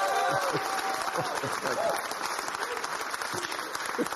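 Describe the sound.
A crowd claps and cheers energetically, dense steady applause with scattered whoops and shouted voices rising above it throughout.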